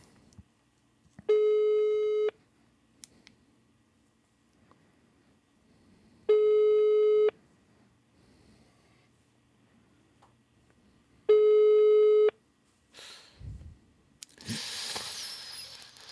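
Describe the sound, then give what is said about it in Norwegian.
A phone line's ringback tone, heard while someone calls a friend, sounds three times, each about a second long with several seconds of quiet between them, followed by some rustling handling noise at the end. No one speaks. “Ja, men hold kjeft nå, for nå ringer jeg”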